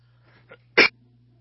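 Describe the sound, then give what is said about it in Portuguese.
A preacher at a church service gives a single sharp, forceful cough after a faint, brief breathy catch, over a steady low hum, then quiet. “Eu arrumei uma tosse, ela não me deixa mais.”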